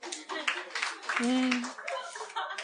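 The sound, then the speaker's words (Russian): A few scattered, half-hearted claps from women in a small audience, soft and uneven like light patter, with voices and a brief hum or laugh mixed in. “Какие грустные хлопки. Больше капли дождя, господи.”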